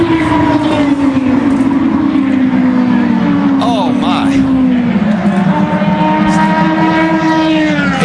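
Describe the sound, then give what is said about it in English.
Multiple race cars crash in turn two amid a continuous, loud roar of high-revving engines, with pitch sweeping up and down as cars pass, and a brief jumbled burst of noise midway. “Trouble contact and a huge crash. Oh. Up in turn number two. Oh, multiple cars involved.”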